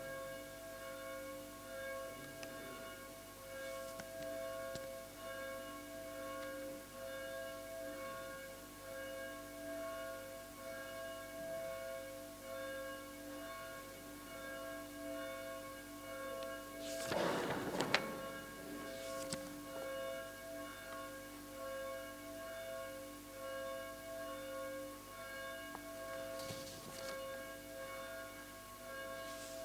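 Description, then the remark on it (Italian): A church bell rings on and on, its long humming overtones hanging in the air throughout, with a louder, clattering burst partway through. No one speaks. “Aspettiamo che finisce la campana.”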